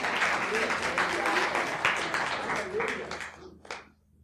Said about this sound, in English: Now, amen. You give God a hand clap for that one.